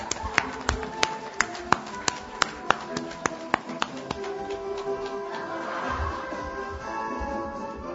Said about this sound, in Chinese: 朋友们，让我们用热烈的掌声对他们取得的成绩热烈的祝贺。